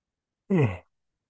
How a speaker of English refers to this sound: So here we go. After I yawn one more time.